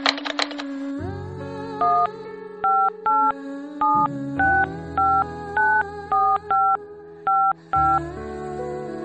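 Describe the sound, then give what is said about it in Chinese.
A rapid series of about a dozen short, clear telephone keypad beeps as a number is dialed to call someone back, each a two-tone chirp, over a low steady hum with no voices. “啊啊，行行行，那我给你打回去。”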